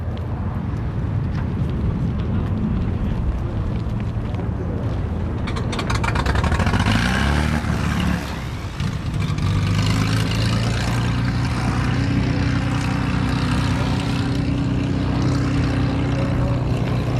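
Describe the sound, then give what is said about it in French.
A loud propeller engine roars steadily at full power, its pitch shifting partway through as a small plane, the Delta Papa, takes off. No voices are heard. “C'est le Delta Papa qui vient de décoller.”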